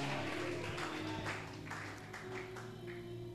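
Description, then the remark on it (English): An audience claps hands at a preacher's call in an uneven, overlapping patter over sustained low musical chords, with no clear talking, the applause fairly quiet and steady throughout. “Clap your two hands and say, may fire take over my life.”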